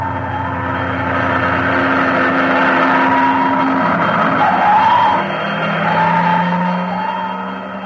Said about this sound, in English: Uh-oh. What's the matter? Fire engines.